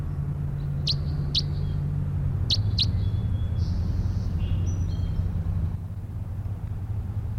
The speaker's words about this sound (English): It's bird 306 again.